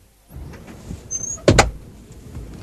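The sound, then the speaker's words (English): A heavy aircraft cabin door swings shut: a short mechanical whir and high squeal, then a solid double thud as it latches, with a low rumble behind and no talking. “48 passengers. Doors closed.”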